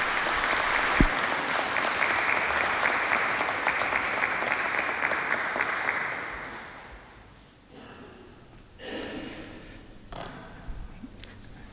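A crowd applauds steadily and loudly for about six seconds to encourage a priest invited up to speak, the clapping then fading away into quieter noise with a few scattered sounds and a brief voice.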